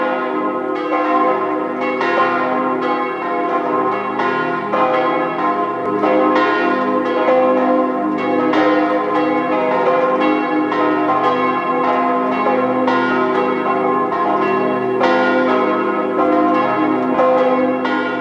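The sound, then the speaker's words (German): Several church bells of the parish church of St. Hippolyt in Zell am See, Salzburg, ring together at noon in a dense, continuous peal, strokes overlapping with rich sustained harmonics, loud and steady for the whole stretch with no voices. “Sie hören die Glocken der Stadtpfarrkirche St. Hippolyt in Zell am See im Land Salzburg.”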